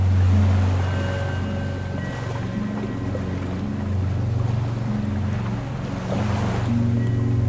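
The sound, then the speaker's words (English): Ocean waves wash in a steady, continuous roar, with a deep, constant low rumble underneath and no voices, holding at an even loudness throughout. “Allow the sounds of the ocean to wash over you, bringing you closer to the infinite source of energy within you.”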